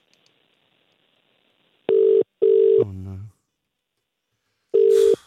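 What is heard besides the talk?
telephone call ringing tone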